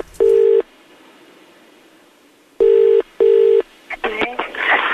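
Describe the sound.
A telephone ringback tone as a friend phones another woman: one steady buzzing burst, a pause, then a double ring, each loud and clear. A voice starts speaking right at the end.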